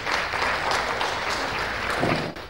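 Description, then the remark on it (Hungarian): An audience applauds steadily for about two seconds to encourage a volunteer who has come up to talk with the speaker, a dense, bright wash of many hands clapping at once, fading quickly at the end. “Nagy tapsot kérek bátorításul!”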